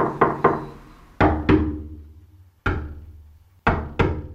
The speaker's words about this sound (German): Man sich leicht vorstellen, wie man mit der lockeren Hand die Finger steif sozusagen gegen so ein Holzfass schlägt. Das kann man ja auch heute an jedem Kanister nachvollziehen. Dann im Moment, wo man den Wasserspiegel erreicht, ändert sich der Ton.